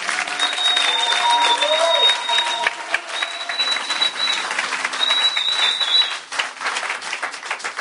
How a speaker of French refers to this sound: Applaudissez pour le Seigneur Jésus.